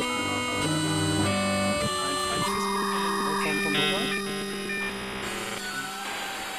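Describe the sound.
A voice imitates a floppy disk drive reading, with buzzy, whirring and grinding tones that shift in pitch in short mechanical bursts. It is fairly loud for several seconds.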